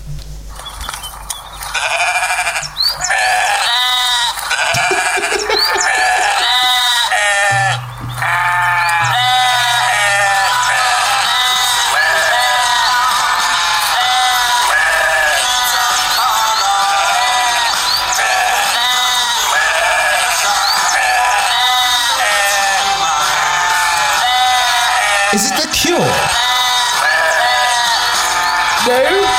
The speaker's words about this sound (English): I'm going to be hearing those sheep.